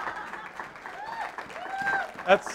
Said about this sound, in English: That's applause for my wife's patience, I'm sure.